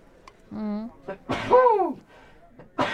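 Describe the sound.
A single loud sneeze: a short voiced intake building up, then a sharp breathy burst that trails off, with a brief breathy noise afterward.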